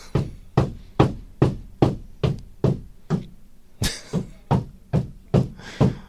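Steady hammering: about fifteen sharp, loud blows at a regular pace, with a brief pause partway through before the strikes resume. No voices accompany it.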